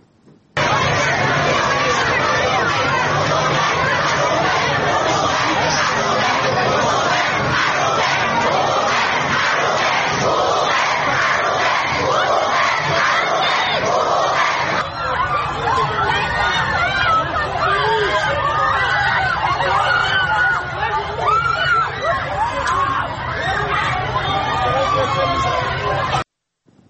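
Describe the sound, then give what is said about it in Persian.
A loud crowd of animal rights supporters at a protest rally in Tehran chants and shouts in unison, voices overlapping continuously with a dense babble underneath, the chanting steady throughout and shifting slightly in character partway through. “اما گروهی از حامیان حیوانات این هفته در تهران دست به تجمع اعتراضی زدن که تصاویری از اون رو با هم میبینیم.”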